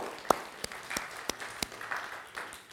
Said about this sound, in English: Amen. Amen. You can clap for that.